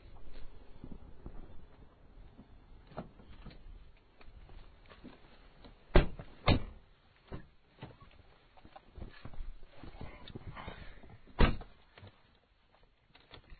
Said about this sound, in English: Okay, now we're going to open the door and get in the car. Okay, here we go.